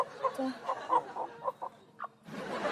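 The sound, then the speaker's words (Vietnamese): A chicken clucks in a run of short, choppy calls, followed by a brief rougher burst of noise near the end. “Em trả cho con gà chị đừng có la nữa nha chị.”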